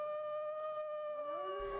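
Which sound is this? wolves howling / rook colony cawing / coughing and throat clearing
wolves howling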